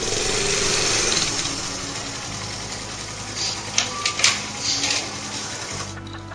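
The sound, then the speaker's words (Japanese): A small passenger ferry's engine at Uraga, Japan, drones steadily, a low rumbling hum with a buzzy mechanical texture, joined by a few brief higher chirps near the end. “これがあの浦賀の私、今も生活の足なのだな。”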